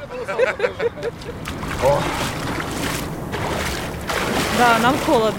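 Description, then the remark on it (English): Water splashes and sloshes as a bare-chested man standing waist deep crosses himself and dunks three times into an icy, unfrozen river with floating chunks of ice on a holiday, with a steady wash of churning water and voices calling out. “Then he wades in waist deep, does the sign of the cross over his bare chest, and then he dunks. Once, twice, three times.”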